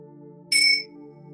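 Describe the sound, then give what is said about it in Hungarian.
A single bright bell chime rings out during a guided relaxation and deep-breathing exercise, with a clear, high shimmering tone, lasting under half a second over a steady low droning hum that continues throughout. “Miközben egy jó mély lélegzetet veszel, beengeded a csengő hangját.”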